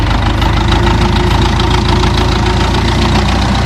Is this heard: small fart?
no